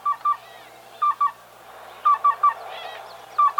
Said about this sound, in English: The black-billed cuckoo's call is usually more of a monotone coo-coo-coo, though it can also make a call similar to the yellow-billed's.